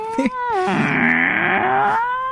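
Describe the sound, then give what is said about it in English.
A voice imitates the creaking door of the Inner Sanctum radio series with a sustained, strained, wavering groan that holds steady for about two seconds, rich in harmonics and fairly loud, with no talking over it. “So, no, but the creaking door is like this.”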